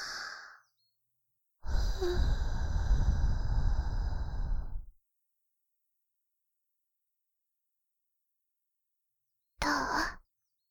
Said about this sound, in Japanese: 最後に息をかけちゃうね。